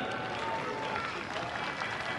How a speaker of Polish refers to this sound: I tak dzięki zaangażowaniu wszystkich wchodzimy szczęśliwie na Jasną Górę, machając wszystkim czerwonymi kapeluszami z akcentem patriotycznym, białym dodatkiem. Szczęść Boże, witamy serdecznie grupę siódmą. Gorące oklaski!